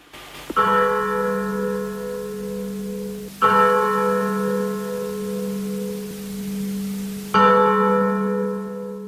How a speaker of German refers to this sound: Aber besonders heute am Gründonnerstag wenden wir einen Blick dorthin, wie eben die Feiern, die Gottesdienste in der byzantinischen Tradition gefeiert werden. Und dazu stimmen wir uns jetzt gleich mit entsprechenden Glockenklängen ein.